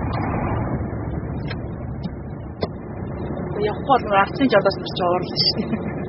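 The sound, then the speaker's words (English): A steady, low rumble of trucks idling in a gridlocked line at Mongolia's southern border fills the scene without letup, with faint indistinct voices and a few brief sharper sounds rising over it toward the end. “Trucks idle in gridlock like a row of dominoes.”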